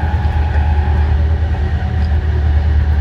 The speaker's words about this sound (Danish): Når toget kommer til København, så bliver lokomotivet parkeret, og så er det slut med diesel-lokomotiver hos DSB. DSB har haft diesel-lokomotiver siden 1950'erne, og alle DSB's store diesel-lokomotiver kommer i samarbejde med General Motors i USA.